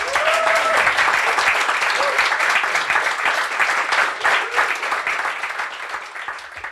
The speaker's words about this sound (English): And while I've got you on round of applause, if I can have a round of applause